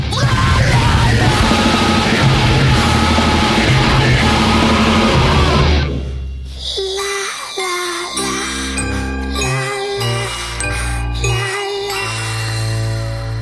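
A song in which a loud, harsh vocal scream over dense, distorted music gives way abruptly to a sparser, melodic sung passage with chiming, tinkling tones.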